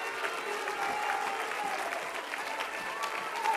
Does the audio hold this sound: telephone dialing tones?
no